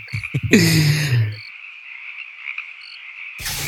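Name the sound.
crickets chirping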